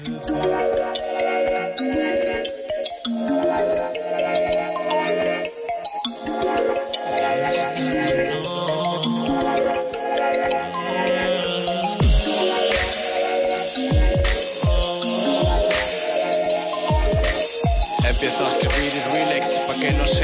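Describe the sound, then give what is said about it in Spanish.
The intro of a hip-hop song about Huelva, with layered melodic instrumentation, loud and continuous, then punchy low drum hits join in about halfway through, giving a steady rhythmic beat. No one speaks. “Nos despedimos con un último temita que podemos poner aquí también sobre Huelva”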